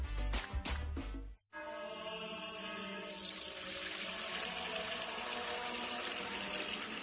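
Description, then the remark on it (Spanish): After a few short bursts and a brief pause, Fuente Umbría pure spring water pours steadily, a continuous splashing stream that grows brighter partway through and runs to the end. “Agua pura de manantial Fuente Umbría.”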